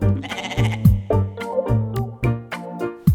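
goat bleating

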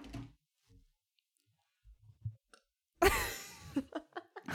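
burp

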